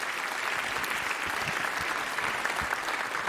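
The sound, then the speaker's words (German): An audience claps steadily for a few seconds after a talk, a dense, even wash of many hands with no voices standing out. “Ich würde mal sagen, einen Applaus.”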